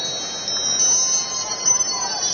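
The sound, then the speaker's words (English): An iPad text-message wind-chime alert tone rings out during a Mets baseball game broadcast, a cluster of high, shimmering chime notes that linger and overlap for a couple of seconds above a steady, muffled background murmur. “It's Keith Hernandez getting a text on his iPad. But who the hell could have known that without him telling you? Who selects extended play wind chime for an alert”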